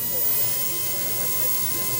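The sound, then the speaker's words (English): A dentist drill whines in a steady, high-pitched hiss with thin sustained tones, holding constant for two seconds while faint voices murmur underneath. “But thousands of people here spend hours in line just for the chance to hear the dentist drill, often for the first time in years.”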